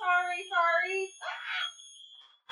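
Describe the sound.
A smoke detector set off by smoke from a lit candle shrieks with a steady, piercing high-pitched tone, loud, briefly mixed with a burst of noise and wavering voice-like sounds.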